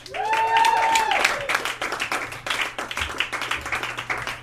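Steady crowd applause fills the room, dense overlapping claps with a few whoops or cheers near the start, then settling into a sustained, moderately loud round of clapping.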